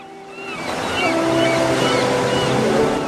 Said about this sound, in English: With her jeans rolled up to her knees, she stands still in shallow water, her feet firmly planted in the sand. The waves ripple around her ankles.